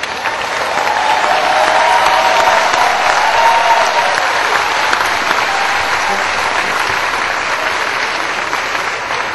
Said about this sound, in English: Also, more applause for ….